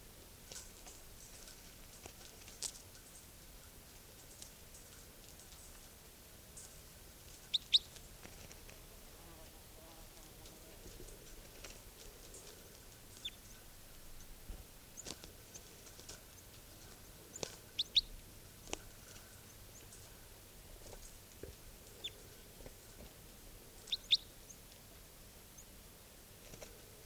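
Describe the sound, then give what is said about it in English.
Faint, scattered bird calls from a wild type 2 bird that has just been caught: short high chirps and tweets arriving irregularly, a few in quick pairs, over a low, steady background hum with occasional soft clicks and rustles. “That wild type 2 bird just got caught.”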